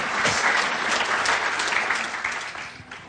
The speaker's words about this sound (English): But I remember my mom, she's here, she's right here tonight. We can give my mom a round of applause. Make her embarrassed, come on.